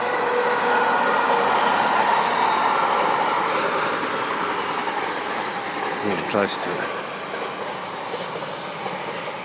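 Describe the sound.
A train rumbles past, a loud, steady roar of wheels on rails with a sharp metallic clatter midway, while a person speaks briefly over the noise, outdoors on a sunny day with a few wispy clouds, beside a field turned to pasture.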